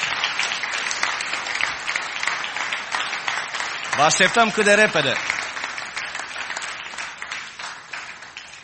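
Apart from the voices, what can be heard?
audience applauding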